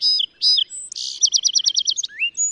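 A song sparrow sings a single complex phrase mixing tones, with a few clear opening notes, a brief buzz, a rapid trill and a closing flourish, clear with no other sounds.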